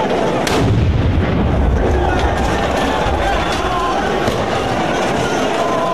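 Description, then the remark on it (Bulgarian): A combat grenade thrown by protesters explodes inside the Verkhovna Rada, Ukraine's parliament building, cracking out early, followed by loud, rumbling, chaotic noise and commotion that continue throughout, with another sharper burst near the end. “Избухването на гранатата е заснето и във видео от някого в самата сграда на украинския парламент.”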